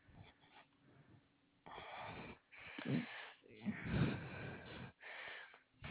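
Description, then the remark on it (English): Heavy, rasping breaths close to the microphone, several loud inhales and exhales in an uneven rhythm, with a faint wheezy, snorting edge. “You're breathing a little heavy.”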